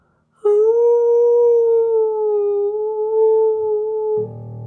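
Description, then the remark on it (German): A single long, steady wolf howl rises suddenly and holds an even tone for nearly four seconds, loud, before breaking off into a low rumble at the end. “Und vor lauter Enttäuschung und Hunger fing er an zu jaulen.”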